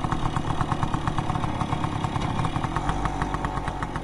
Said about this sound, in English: But when he has time, he likes to ride his motorbike around Kachin. Riding, he says, has long been a part of his life.